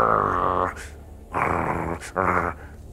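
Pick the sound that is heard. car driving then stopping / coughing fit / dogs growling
dogs growling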